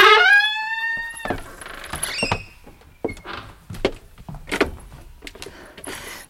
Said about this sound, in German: Hörst du die Schiffsglocke? Das ist die Van Buren. Der Dampfer ruft zur Fahrt nach Norden.